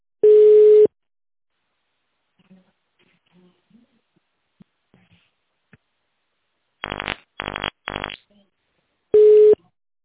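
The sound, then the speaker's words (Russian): A steady mid-pitched electronic beep sounds alone, followed after a quiet stretch with faint sounds by three quick rapid pulsing tones, then the same single beep again, from the telephone answering system of the Institute of Physical-Technical Problems, prompting callers to dial an extension after the tone. “Наберите добавочный номер после сигнала.”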